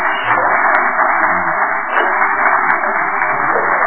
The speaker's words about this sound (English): So we can give ourselves a happy round of applause.